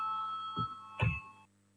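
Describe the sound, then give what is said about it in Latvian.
A steady electronic bell tone rings for about a second and a half, then cuts off abruptly, with two soft low thumps partway through. It is the call to vote in the Saeima (Latvian parliament) before a vote on a committee proposal. No one speaks. “Lūdzu zvanu, balsosim par trešo atbildīgās komisijas priekšlikumu.”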